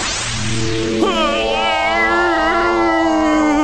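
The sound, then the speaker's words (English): A long, loud yawn from tiredness: a breathy intake of air followed by a drawn-out, voiced groan that holds a fairly steady pitch with a slight wobble until the end. “Pardon the yawn.”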